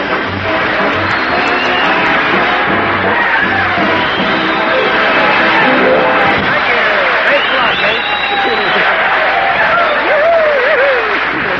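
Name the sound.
studio audience applause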